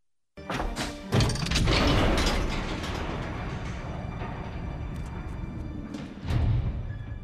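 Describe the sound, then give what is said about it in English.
A large heavy door rumbles and scrapes as it slides open, a sustained grinding roar with thumps at the start and again near the end, loud with no talking. “Now that is a big door.”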